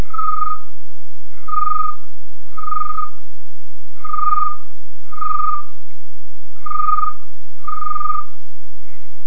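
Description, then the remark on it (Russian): A voice imitates a cricket by combining snoring with an inward, inhaled whistle, producing seven short, shrill chirps in a steady rhythm, each a brief trilling burst with small pauses between, clear with no talking. “Сейчас такой прикольный звучок. Называется сверчок.”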